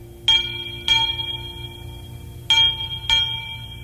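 A clock figure strikes the hour bell four times, in two quick pairs separated by a pause, each bright metallic stroke ringing on over a low steady hum.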